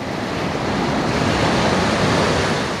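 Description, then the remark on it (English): Sea surf rolls onto the fine white sand of Karadere Beach in northeastern Bulgaria, near the village of Gorica, in a steady, continuous roar of breaking green-blue waves, fairly loud, with a constant hiss and no voices. “It's an hour-long walk from the village of Gorica in northeastern Bulgaria through a thick oak forest to Karadere Beach, a long stretch of fine white sand and green-blue waves.”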